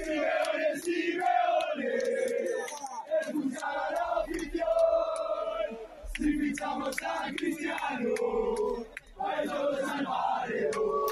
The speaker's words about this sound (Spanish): Este era el grito de una parte de esa hinchada del Atlético allí en el Burgo de Osma.